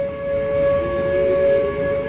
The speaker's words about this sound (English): Listen to that tornado siren and take a look at how hard it was blowing today at Warner Robins Air Force Base south of Atlanta, in the middle of what the airmen here believe was a twister.